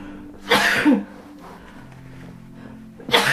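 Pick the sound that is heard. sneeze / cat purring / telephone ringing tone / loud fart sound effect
sneeze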